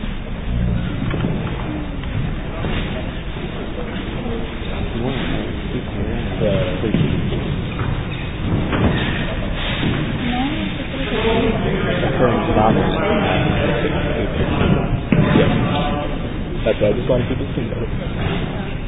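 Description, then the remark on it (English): Chairs scrape and shuffle across the floor of a memorial hall as a crowd moves their chairs forward toward a table and settles in, with several voices chattering underneath. The bumping and dragging continues steadily throughout, moderately loud. “So while people are shifting around”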